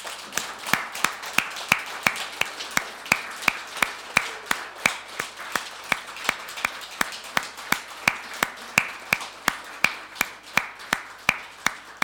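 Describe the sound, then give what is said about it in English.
A large audience stands and claps together in a steady, even rhythm for the life of a special woman at Merstham Baptist Church in Merstham, sharp unified claps over a dense wash of scattered applause, sustained for the whole stretch with no talking. “Can we just stand up and clap your hands for the life of a very, very special woman?”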